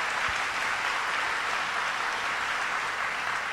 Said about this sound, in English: Senator Tim Kennedy, let's give him a round of applause.